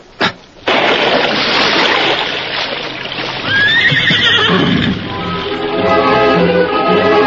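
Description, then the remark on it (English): A horse neighs loudly, its whinny rising and falling over a continuous rush of splashing water, with no voices; one of the horses waiting at the water's edge in a Lone Ranger drama. “I'll wait here with the horses.”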